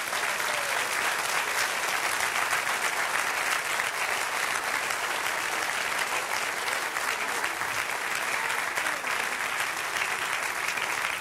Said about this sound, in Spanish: Dale un aplauso, eso lo merece.